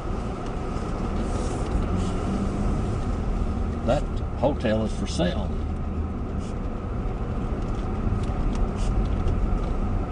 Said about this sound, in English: And we'll just drive here slowly since we don't have a lot of traffic here.